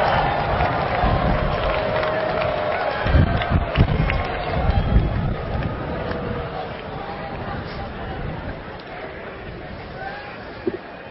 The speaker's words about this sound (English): Class of 2009. First, I want you to stand up and wave and cheer your sportive family and friends. I'm sure you can find them out there. Show your love.